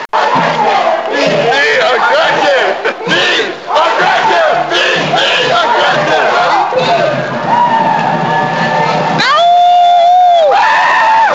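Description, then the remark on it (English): A large protest crowd against trade agreements, marching from Malcolm X Park through the neighborhoods to the White House, shouts and chants loudly with many overlapping voices, a dense, continuous roar of yelling. Near the end a long, steady high-pitched tone rises above the crowd. “This time around, people gathered at Malcolm X Park and marched all through the neighborhoods before finally going downtown to the White House.”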